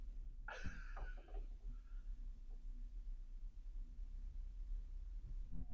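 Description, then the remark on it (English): A single short sniff near the start, a quick nasal inhale as someone smells cask-strength whiskey from a glass, followed by several seconds of quiet, low background rumble with faint shuffling. “everybody's drinking and sniffing right now.”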